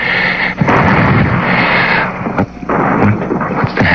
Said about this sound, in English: Shooting. Downtown. They're shooting.